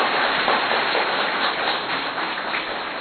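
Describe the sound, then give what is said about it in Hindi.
An audience at Madhuban claps loudly and steadily, a dense crackling wash of many hands that holds at an even level for about three seconds, with no voices over it. “अब जोर से ताली बजाएं।”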